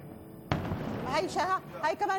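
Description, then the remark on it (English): A sudden, heavy explosion from a strike booms nearby, its low rumble rolling on for a moment before voices begin talking over the fading echo. “There was another explosion. That one hit some place moments ago and exploded.”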